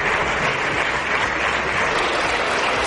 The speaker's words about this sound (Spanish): Pues eran los aplausos que recibía Casado de la bancada popular, entre los que estaban muchos de los que ayer precisamente le dieron de lado y pedían un cambio de rumbo en el partido.